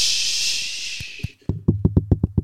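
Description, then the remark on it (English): Rain falls outside with a steady hiss that fades out, then a rapid series of about ten sharp, resonant knocks on a door rings out, fairly loud, speeding up toward the end. “I hear a knock.”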